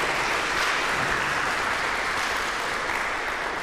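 Steady audience applause, a dense wash of many hands clapping at once, sustained at an even loudness for a few seconds with no voices rising above it.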